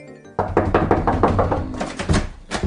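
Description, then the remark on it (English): A rapid, insistent series of loud knocks pounds on a door. The rhythm quickens into a flurry, pauses briefly, then resumes hammering, with no voices. “Richard, Sally, will have you open this door?”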